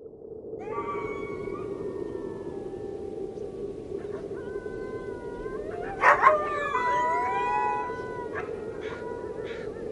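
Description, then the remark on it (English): Several wolves howl together in the distance, long drawn-out tones rising and falling and overlapping into a chorus, with a few sharper yips partway through, over a steady low background hiss. “Far away came the cry of the hungry wolves, looking for food.”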